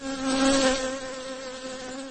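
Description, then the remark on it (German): A bee buzzes loudly and steadily for a couple of seconds, its droning pitch swelling slightly at first and then holding an agitated, insistent hum as it stings a young man in the palm of his hand. No voices. “Mit wütendem Summen stach es den jungen Mann in die Handfläche.”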